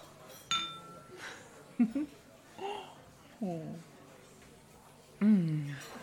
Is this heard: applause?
no